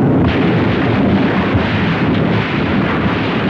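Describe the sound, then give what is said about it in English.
A loud, continuous crackling crunch of bags of Old Vienna potato chips covering an overpass, crushed by rush hour traffic in a crunch test, forms a dense, rumbling roar that holds steady for several seconds with no voices. “The overpass has been covered with bags of old Vienna potato chips, and they're about ready to let the rush hour traffic through.”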